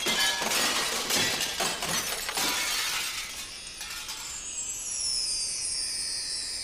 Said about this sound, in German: Was ist denn das? Die Fensterscheiben zerbrechen!